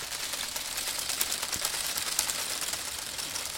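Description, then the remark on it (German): A dry corn stalk with yellow-brown leaves, tied with string to flat stones and to a small motor that moves the string, rustles steadily in a continuous papery crackle, dotted with sharp little ticks and clicks; the level stays even and no one speaks. Part of Pierre Berthet and Lie Nakajima's art project Dead Plants and Living Objects. “Vorne und hinten ist er mit einer Schnur an flache Steine gebunden und an einen kleinen Motor, der die Schnur bewegt und damit auch den Mais zum Rascheln bringt.”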